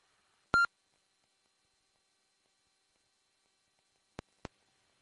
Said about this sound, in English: Okay, I think that's what I figured, that it probably was, that it will give you the tones when it boots up as a result of a past self-diagnostic, because when the radio was faltering, it would not give me that musical tone anymore when I started it